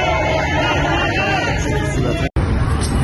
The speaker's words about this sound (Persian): گلشهر کرج، مردم نام معترض جوان اعدام شده در مشهد را فریاد می‌زنند.